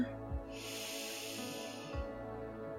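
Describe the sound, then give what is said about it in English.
A slow, steady meditative inhalation, breathing in the silent sound Ram from the bottom of the spine to the head: a soft, airy breath drawn in for about a second and a half, broad and hissy, with faint low thumps at its start and end and no voices. “So I breathe in Ram from the bottom of my spine to my head, and I breathe out from my head to my heart the sound Sa.”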